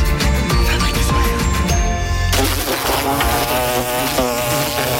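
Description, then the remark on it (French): A loud, continuous buzz of wasps or hornets drones, wavering in pitch as if wings are circling, with a low rumble under the first half and no one speaking. “L'été arrive et les nuisibles aussi. Guêpes, frelons, rongeurs, punaises de lit, cafards.”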